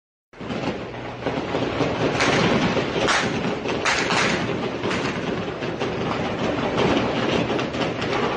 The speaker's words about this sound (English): Heavy gunfire being exchanged between Mexican police and members of the Sinaloa cartel in the Mexican city of Culiacan yesterday. That after news broke out among cartel members that the son of El Chapo had been captured.